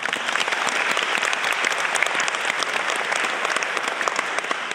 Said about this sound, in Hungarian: Ezzel is tisztában kell lennünk, de az, hogy a média itt van és erről beszámol, azt gondolom, hogy egy nagy tapsot megérdemelne.